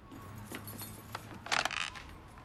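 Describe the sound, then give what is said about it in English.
Keys jingle and click against the lock of a tenement flat door, a few light metallic taps followed by a brief, brighter burst of rattling as the key is worked but fails to turn; no voices, quiet background. “Unable to turn his key in the lock, he tries the handle to find the door already open.”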